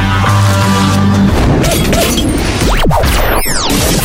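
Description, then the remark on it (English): A loud gunshot-like bang within a dense burst of crashing, shattering noise, with a few swooping whooshes toward the end and no talking. “When you hear something that sounds like a gunshot, drive.”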